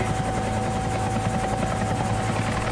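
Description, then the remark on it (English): A helicopter hovers over the Grand Canyon, trying to hold a stationary position, its steady rotor thrum and engine whine filling the air continuously with a constant, loud drone and no voices. “Helicopter's trying to maintain a stationary position.”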